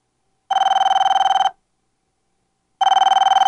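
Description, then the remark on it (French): A telephone rings on an outgoing call to a third phone number, in two bursts, each about a second long with a rapid trilling buzz, separated by a pause of silence; the tone is clear, with no voices. “Je raccroche. Troisième numéro de téléphone.”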